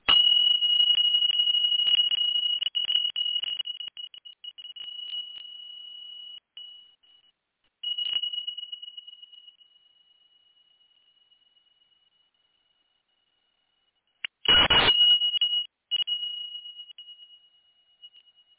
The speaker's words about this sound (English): Before I do that, everyone just move your ears away. If you have AirPods on or air, you know, any type of earbuds, I'm going to clear energy with my chimes. And so just protect your ears for a moment.